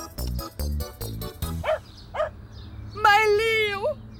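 dog barking and whimpering

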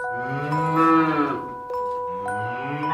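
cattle mooing

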